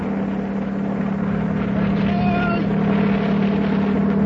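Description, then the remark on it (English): A helicopter bringing mail from the United States to Watling Island hovers with a steady, loud engine drone and a deep, constant hum, holding an even level throughout, with a brief higher whine rising partway through. “Yeah, look out. Here it comes. Ahoy up there! Aboard the helicopter!”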